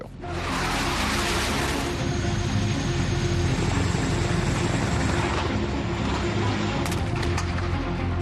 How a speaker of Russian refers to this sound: На военном самолете нас везут на учения, на которых каждый прекрасно понимает всю серьезность ситуации.